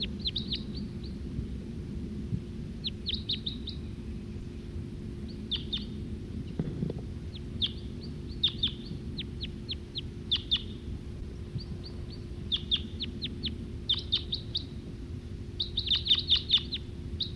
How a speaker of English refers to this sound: Here comes that male again. That male who was singing. He's perched back up there in that tree.